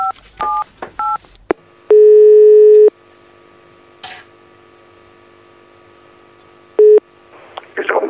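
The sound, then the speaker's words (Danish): A few quick telephone keypad tones beep as a mobile phone number is dialed, followed by long, evenly spaced ringing tones on the line and a faint rustle of pickup at the end. “Jeg har også hans mobilnummer her, så okay. Jeg skal lige prøve at se, om han er på den.”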